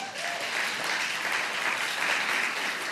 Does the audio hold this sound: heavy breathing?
no